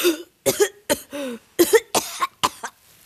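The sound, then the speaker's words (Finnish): A rapid series of short, loud coughs, some with a throaty, voiced edge, coming in quick uneven bursts with brief gaps between them, given on request while someone listens to the lungs. “Joo, ja sitten pari yskäisyä.”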